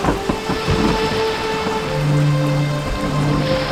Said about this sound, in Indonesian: Saat malam tiba, hujan turun dengan deras disertai angin kencang.